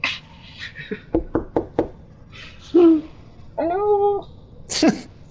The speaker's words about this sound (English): Yeah, I found the casket. I'm gonna knock politely.